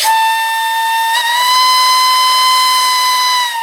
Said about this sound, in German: Das Pfeifen der Lokomotive kündigte den Start der Reise an.